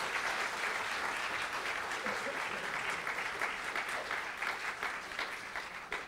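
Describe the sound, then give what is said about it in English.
Steady audience applause for a group of volunteers fills the whole stretch, a dense wash of many hands clapping at a fairly even level, fading slightly toward the end, with no voices standing out. “Right, a round of applause for all my wonderful volunteers.”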